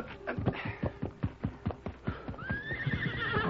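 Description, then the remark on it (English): A horse whinnies loudly, its rising neigh riding over a steady, rapid clip-clop of hooves that pounds out an even rhythm throughout. “Then, putting on his boots, he ran to his horse.”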